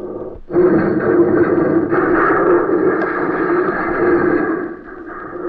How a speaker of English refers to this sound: Use the truck as a battering ram and smash through those garage doors. Hold on, Denny. Here we go.